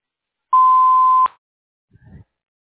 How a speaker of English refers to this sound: Thank you for calling Vanguard Medical Group. Please leave a message with your name, phone number, and reason for your call after the tone, and we will return your call as soon as possible.